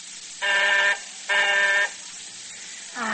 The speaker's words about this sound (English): Paul Barber types the last line on the final page, rolls out the yellow sheet, flips it to a stack of manuscripts, and reaches across to press the buzzer, which rings in the library downstairs where his sister Claudia is waiting.